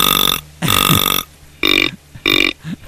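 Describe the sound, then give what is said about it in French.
A person imitates a deer call with four loud, raspy, burp-like bursts separated by short pauses, each harsh and buzzy with a low grunting tone. No one talks. “Ça, c'est le chevreuil, ça.”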